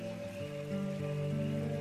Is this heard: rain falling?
yes